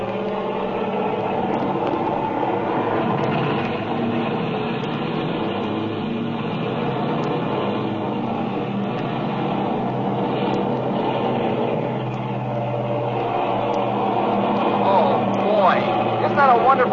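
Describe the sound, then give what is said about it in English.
A steady, loud drone of several propeller aircraft engines flying in formation at night, a thick layered hum of overlapping tones that holds throughout and swells slightly near the end. “Look at those props flashing in the moonlight. They look like silver discs. And the blue flames coming out of the exhaust stacks.”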